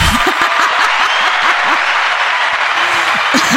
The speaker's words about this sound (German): Schön, dass ihr dabei seid, dass wir wieder am Start sind. Und dafür gibt's gleich mal einen Applaus.